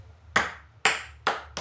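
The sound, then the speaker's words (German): A small ping-pong ball bounces four times during a game of beer pong, each bounce a sharp, bright tick with a short ringing tail. The bounces come quicker toward the end, and the ball falls into a beer glass. No one speaks. “Und dann einmal bouncen und wenn ich das treffe, dann musst du halt dieses Glas dann trinken.”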